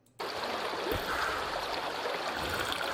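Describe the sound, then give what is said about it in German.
Steady flowing water babbles and trickles continuously after a brief silent start, even in level, with no voices, as a video game character sits at the water and drinks. “Er sitzt wirklich am Wasser und trinkt nur zur Hälfte.”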